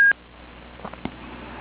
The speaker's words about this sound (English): It sounds like some people are coming into the call now. I hear some beeps.